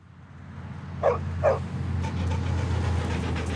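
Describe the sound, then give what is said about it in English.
A dog, Bonkers, gives two quick, mid-pitched barks about half a second apart while pulling on its leash at a street crosswalk, over a steady low rumble of traffic that swells slightly toward the end. No one speaks. “Bonkers is trying to pull Michelle into the traffic.”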